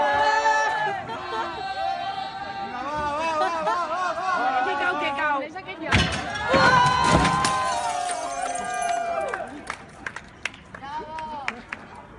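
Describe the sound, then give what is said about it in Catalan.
A crowd shouts and cheers, many voices overlapping in loud excited calls, with a sudden burst of louder cheering midway and scattered claps and whistles toward the end, as three young people topple an equestrian statue of Franco displayed in front of the Born for an exhibition. “La decisió es va prendre minuts després que tres joves l'haguessin tombat, gest acollit amb aplaudiments i amb el cant dels segadors. Aquest era el moment de la caiguda de la figura.”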